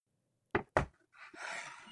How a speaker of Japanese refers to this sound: 扉を開けると、室内の温度が流れ込む。